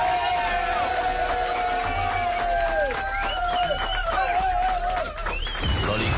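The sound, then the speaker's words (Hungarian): A lively crowd claps and shouts together in farewell at the end of a Slágerrádió radio show, raised voices and cheers layered over steady applause, loud throughout with a brief dip near the end. “Itt egy búcsú taps kiabálás.”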